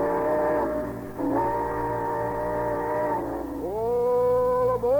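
A train whistle sound effect for the Summer Show Train sounds in long, loud, sustained blasts, its chord bending upward near the end, over a steady low rumble as the train pulls out. No one speaks.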